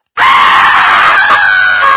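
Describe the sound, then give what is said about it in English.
A person imitates a loud, piercing scream that bursts in abruptly and holds steady at high pitch for nearly two seconds, with no other sounds. “He said, all of a sudden, he said, that thing screamed. He said, here's what we heard.”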